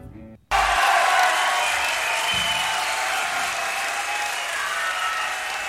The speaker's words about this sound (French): Qu'ils en soient tous les trois remerciés et on les applaudit bien fort.